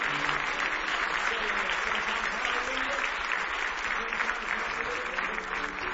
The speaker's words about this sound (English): Give Him one more big hand clap of praise if you love Him this morning.